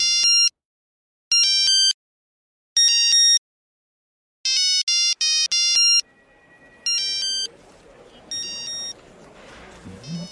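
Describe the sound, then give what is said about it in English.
A new mobile phone's ringtone plays a rap song as bright, synthetic electronic notes in short repeated bursts with pauses, then continues in clipped phrases over faint background noise and murmuring. “You know what that is, right? …. …, yeah. You have a new phone.”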